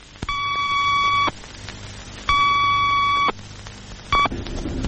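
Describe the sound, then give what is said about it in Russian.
Two long electronic warning time signals, each about a second, followed by one short one, given 4 seconds before an atomic test explosion, all loud and steady-pitched over a low background hum, with no voices. “За 4 секунды до взрыва начали подаваться предупредительные сигналы времени. Два длинных и короткий.”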